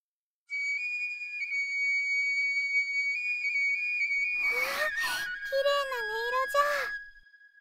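A flute or whistle holds steady, clear notes with a few small pitch steps for several seconds, then gives way to breathy, hissing bursts and wavering, sliding tones near the end.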